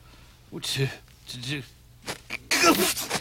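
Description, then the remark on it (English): A person lets out a sharp sneeze near the end, after a couple of brief voiced breaths and sniffly sounds build up to it. “Bless you.”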